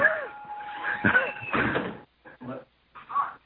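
A door is opened and shut as someone comes in: a drawn-out creak, then a couple of solid thumps, followed by a few quieter knocks and rustles after a brief pause.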